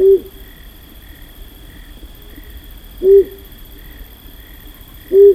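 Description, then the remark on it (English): A tiny flammulated owl gives three short, low, soft-edged hoots spaced a few seconds apart, standing out over a quiet background with a faint steady hiss and a thin high whine. “For example, the tiny flammulated owl has also declined.”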